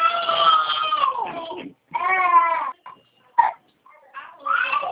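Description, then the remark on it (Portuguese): A child screams and wails in loud, high-pitched bursts, several long strained cries broken by short pauses and a brief sharp yelp, with no other voices. “Sim, pode falar, tinha uma criança gritando aqui, né?”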